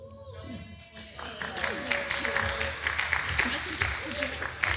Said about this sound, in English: Oh, why did we clap?